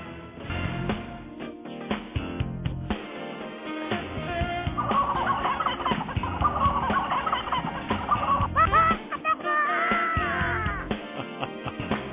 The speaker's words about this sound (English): That's the rooster over the gobblers there.